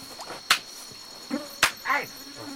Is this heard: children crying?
no